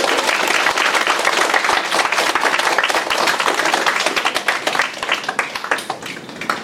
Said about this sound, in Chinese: 最后把最大的掌声要归于天父。